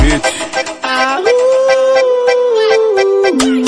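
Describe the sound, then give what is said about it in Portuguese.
A dog howls in one long, drawn-out note that rises, holds steady and then dips, loud, over a driving rhythmic music beat. “Late coração, cachorro, solta aquele uivão.”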